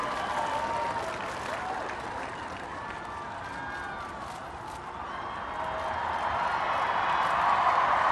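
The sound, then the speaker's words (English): A vast outdoor crowd on the National Mall roars with sustained applause and cheering each time President Barack Obama waves before speaking, with chants of 'Obama'. A dense wash of clapping and shouts swells louder toward the end, with scattered whistles rising above the noise. “Each time he waves, you're hearing a cheer.”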